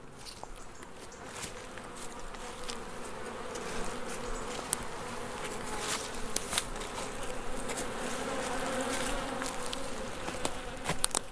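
A dense, steady drone of many honeybees buzzing, a continuous hum with scattered sharp ticks and rustles over it, and no voices.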